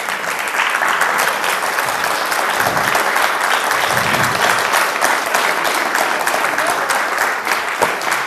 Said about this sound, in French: Applaudissez très fort Stéphane Le Couëdic.